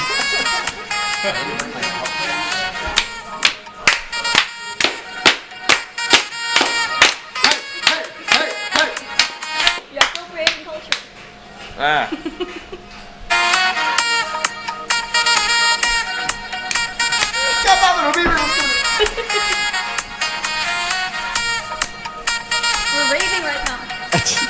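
A ringtone plays loudly on its own, opening with a quick, steady run of sharp clicking beats, then shifting into sustained, bright electronic tones with a wavering melody.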